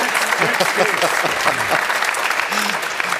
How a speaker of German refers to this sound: Ja, geben Sie ihm doch mal einen Applaus. Das hilft immer.